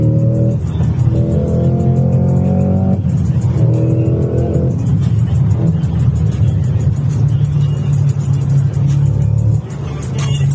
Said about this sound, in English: Got up to 106, actually, on the speedometer. Sweet-sounding car, but it's just ridiculous.